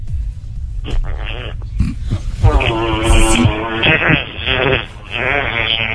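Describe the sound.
A loud fake fart noise: a low, buzzy, sputtering blare that wobbles in pitch, stretched over several seconds with a few rough bursts and brief dips, sounding almost like a bleat.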